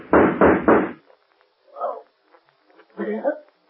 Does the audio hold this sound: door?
yes